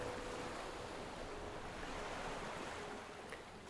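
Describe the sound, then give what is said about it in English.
Waves of the Red Sea, heard from a boat, wash steadily in a continuous, broad rush of surf, with some wind noise mixed in and no voices, holding at an even level throughout. “And then, you know, looking at the ocean, I asked God, I told him, you know, God, help me cross this Red Sea.”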